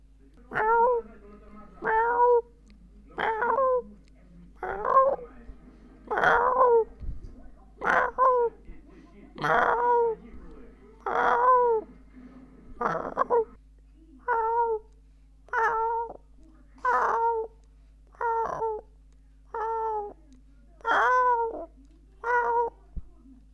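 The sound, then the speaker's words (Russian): A person's voice mimics a cat, giving about seventeen short, drawn-out meows in a steady, evenly spaced series, fairly loud, with brief pauses between each call. “До этого получалось мяукать, но что-то сейчас не получается.”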